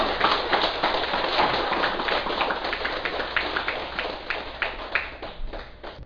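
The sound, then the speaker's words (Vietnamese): A Buddhist audience applauds steadily for about six seconds, a dense wash of clapping that thins toward the end, leaving a few louder, separate claps. “mà cũng vỗ cho tất cả mọi người một tràng pháo tay.”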